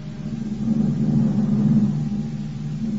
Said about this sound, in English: Then aboard the plane, and we took off.